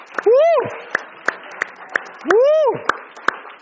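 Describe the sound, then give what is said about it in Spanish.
Audience applause for the engineers, worship team and volunteers: scattered sharp claps at an uneven beat over a low crowd murmur, with two loud rising-and-falling whooping cheers from a voice. “Un aplauso más grande a todos ellos.”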